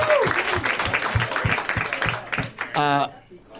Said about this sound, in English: Oh, I was clapping too.